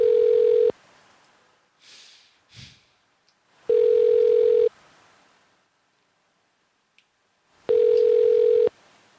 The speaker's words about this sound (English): These phones be ringing today.